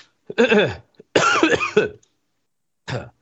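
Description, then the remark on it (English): A person vocally imitates a peacock's scream: two loud, strained, wailing calls with bending pitch, then a shorter rough burst after a pause. No words are spoken. “No, peacocks sound like screaming babies.”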